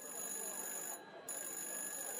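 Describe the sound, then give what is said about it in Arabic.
A telephone in a home rings again with a steady, high electronic tone that runs without a break through the whole moment, set against a dense, noisy background. “على ما مرزوق خلص الحكاية التليفون رن تاني”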